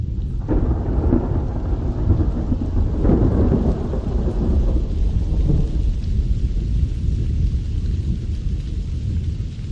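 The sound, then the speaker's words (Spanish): Deep rolling thunder rumbles through a steady downpour of rain, with a loud crack near the start and another surge a few seconds later before the thunder fades into continuous rainfall. “Es el maravilloso sonido de la tormenta que por fin rompe en esta en esta ocasión.”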